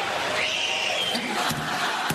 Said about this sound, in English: DeMar DeRozan's 9-year-old daughter went viral due to her high-pitched screams to distract the Raptors attempting free throws. Here she is here. And here's the voice you're hearing when Raptors shoot. She's screaming.